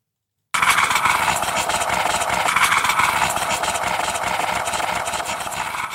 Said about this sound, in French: Alors on dirait pas vraiment, mais c'est une cafetière pour ceux qui se sont posés la question.